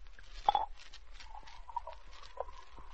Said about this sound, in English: All right, get your glasses. Drop in the ice. Open the bottle. Pour out the Coca-Cola.